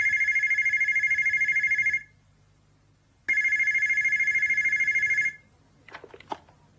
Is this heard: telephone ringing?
yes